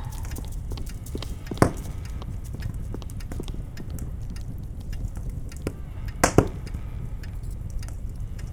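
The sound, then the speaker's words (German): A fire crackles steadily, coming from up in the wall of a fireplace room that has no fireplace, with irregular small pops and a couple of sharper, louder snaps standing out over a constant low rumble; nobody speaks. “Aber ich höre deutlich Feuer knistern.”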